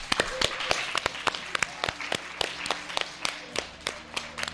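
Scattered applause from a small audience, sharp individual claps crisp, overlapping loosely for several seconds with a faint murmur underneath.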